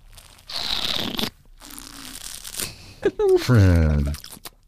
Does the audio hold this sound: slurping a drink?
yes